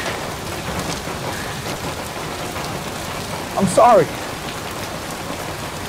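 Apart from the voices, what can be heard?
heavy rain falling outdoors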